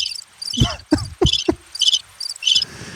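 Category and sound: insect, chirping crickets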